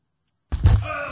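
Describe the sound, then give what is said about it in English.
After a moment of silence, a single heavy thunk as a glass Topo Chico mineral water bottle gets knocked over, followed by a brief ringing rattle fading out, fairly loud. “Knock my Topo Chico over.”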